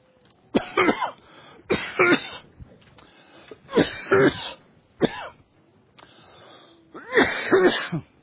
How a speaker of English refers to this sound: Not good to cough when I'm preaching on sickness, but anyway.